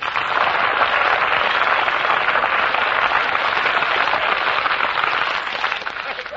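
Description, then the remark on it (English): An audience on an Armed Forces Radio Service show applauds Eddie Green's arrival, a dense, even wash of many hands clapping at a loud, sustained level for several seconds before easing slightly at the end, with no one speaking. “Well, what's going on there, you see, that it says me and everybody applauding and all I'm doing is looking for my grandfather.”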